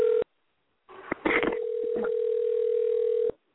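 A steady electronic telephone line tone from an incoming call sounds briefly, then after a pause some clicks and rustling lead into a long, unbroken tone at one mid pitch lasting a couple of seconds before cutting off.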